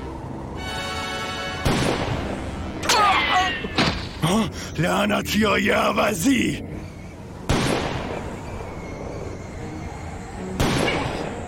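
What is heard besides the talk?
gunfire shots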